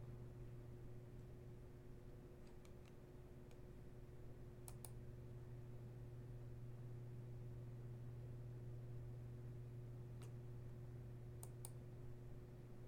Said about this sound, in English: Second, typing up what I'm looking for.